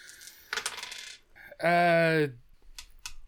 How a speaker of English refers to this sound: Oh, that was not a crit. I should not have rolled that many dice.